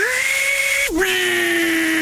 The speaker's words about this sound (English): Table saw.